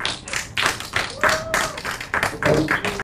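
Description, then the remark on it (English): Audience applause at a meetup for two developers: a dense, continuous patter of many hands clapping at fairly steady loudness, with a few thin, faint whistles rising over the crowd. “Now I suggest to give a huge applause to two of our union developers”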